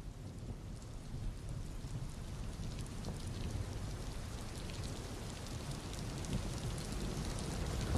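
Steady, heavy rainfall hisses continuously, with a deep low rumble underneath that swells slightly toward the end. No voices, just the dense, even wash of rain throughout.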